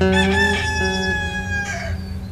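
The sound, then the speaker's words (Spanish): A rooster crows loudly at dawn on a cattle farm, one long drawn-out cock-a-doodle-doo that rises and trails off, with nothing else heard. “una escandalosa noticia retumbó en estas tierras tanto como el afinado canto de los gallos que anuncian el amanecer.”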